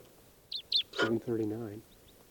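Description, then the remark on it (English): Two sharp, high chirping calls from a wild type 4 red crossbill coming in to decoy birds, on July 14th around 7:39 p.m., followed by a voice-like tone, then a few fainter, brief call notes trail off at the end. “there's a wild type 4 crossbill around here. And it's coming into the decoys now.”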